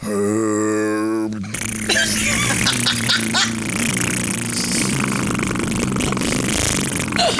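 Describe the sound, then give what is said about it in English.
A single voice holds a deep droning throat-singing tone, then breaks into loud, sputtering cheek-flapping fart noises over the low drone as the person tries doing both at the same time, sounding like a rumbling engine, continuous. “I wonder if I could do the fart cheeks and throat singing at the same time.”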